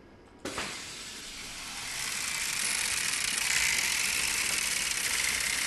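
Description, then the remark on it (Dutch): A bipedal robot, still in development, is switched on and walks: its motors and gears start with a sharp click, then settle into a steady mechanical whir and ratcheting clatter that grows slightly louder and continues without pause. No one speaks. “Misschien kan je hem ondertussen eens aanzetten en dan kan ik eens zien hoe die wandelt.”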